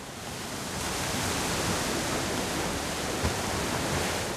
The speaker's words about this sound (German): Also wenn wir uns jetzt die Autobahn nochmal anhören und dann nach einem Cut Meeresrauschen kommt, dann kann man vielleicht ganz schön den Unterschied raushören. Es folgt das Tonbeispiel Meeresrauschen, Brandung.